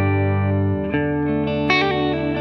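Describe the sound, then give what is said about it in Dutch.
A distorted electric guitar plays through a Blackstar amplifier, picked up by a small camera set close to it: sustained chords with a thick, buzzing, harmonic-rich tone and a couple of sharper picked accents, loud and steady with no voices. “Gaat rechtstreeks droog in de poepert van de Blackstar.”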